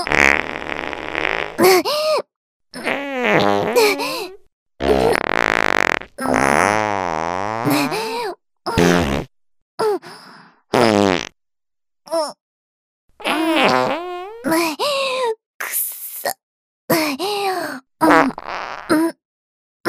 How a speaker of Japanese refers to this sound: きっと、もう少しでうんち出ると、思うから、ちょっと本腰入れて、おならしちゃうわね。